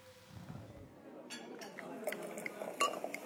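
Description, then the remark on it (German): Glasses clink together several times in a toast, bright short chinks scattered over a few seconds against quiet background murmur, moderately loud. “Dann stoßen wir nochmal an mit unserem Glas, oder?”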